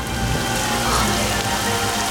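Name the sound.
rain pouring down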